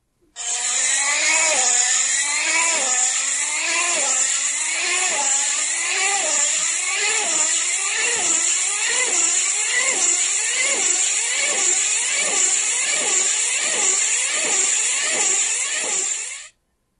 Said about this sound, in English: So, this was a remote control car, and at the highest pitch, it was going 200 miles an hour